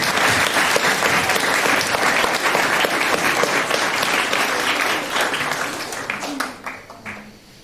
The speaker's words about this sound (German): Von daher, Minerooms, großen Applaus für Minerooms.